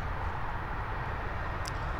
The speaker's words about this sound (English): And so you are hearing a great deal of traffic.